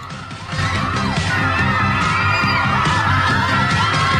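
An excited crowd of young pop-star lookalikes runs into the Top of the Pops studio at BBC TV Centre in 1982, whooping and cheering loudly over a steady, thumping music beat, with the noise swelling in about half a second and staying dense and high-pitched throughout.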